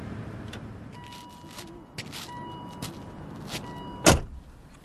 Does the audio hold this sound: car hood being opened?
yes